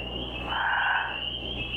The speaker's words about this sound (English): Chorus number 4. Listen for gray tree frogs and spring peepers.